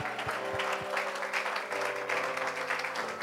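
A crowd claps steadily and loudly for the whole stretch, giving God a standing ovation, a dense wash of many hands with a sustained musical tone humming underneath.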